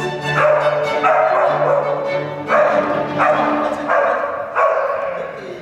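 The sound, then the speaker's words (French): Dogs bark loudly on a conductor's signal in a rhythmic series of about six or seven strong barks, roughly evenly spaced, over sustained orchestral tones from real musicians humming underneath throughout. “Le chef d'orchestre était à fond, super content que les chiens aboient le plus fort possible.”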